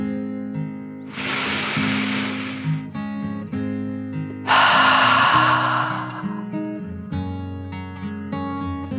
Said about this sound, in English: took another deep dragon breath in and out.